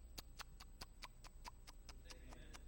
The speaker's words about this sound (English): 60 Minutes. It does not have a theme song. It's just the ticking of the clock.